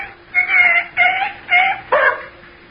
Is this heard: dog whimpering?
yes